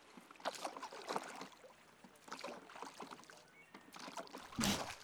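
Oars dip and pull a borrowed rowboat through calm water in a slow, steady rhythm, with soft splashes and gentle lapping, one stroke sounding a bit louder near the end.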